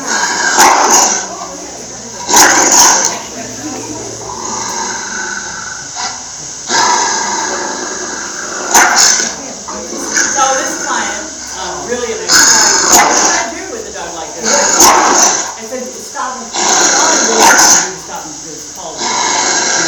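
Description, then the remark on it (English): A dog guarding its food growls and barks, with sharp, loud barks bursting out every few seconds over a steady, tense rumble that carries through the whole stretch. “It's a really good way to show the disconnect with a dog with all of the food that are.”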